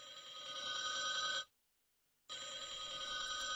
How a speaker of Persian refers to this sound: ای کی میتونه باشه؟ سرای کنین تلفن رو بردارم.